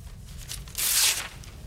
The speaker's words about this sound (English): Okay, let's get going. The candidates tear open an exam paper in unison.